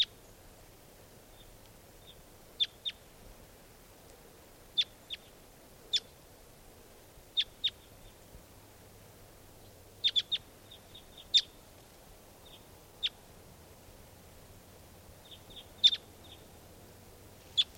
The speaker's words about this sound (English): There they go. Well, there are three, yeah, just two birds. Yep.